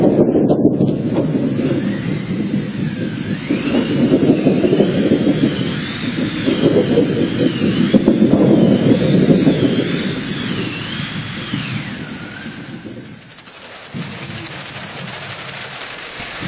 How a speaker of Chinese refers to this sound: 咱们先来通过现场的一段音效，我们先来感受一下。很明显，这是雷声，有风声。